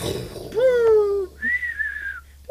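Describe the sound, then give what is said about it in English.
A voice imitates a firework with whistles: first a wavering, slightly falling whistle, then a higher, steadier whistle that glides up and holds before cutting off. There is no bang. “We need, like, firework sound effects and...”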